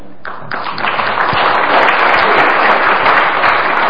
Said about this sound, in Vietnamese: Chúng ta xin dâng lên Chúa và tạ ơn Đức Mẹ. Dâng lên Chúa và Mẹ một tràng pháo tay cảm tạ.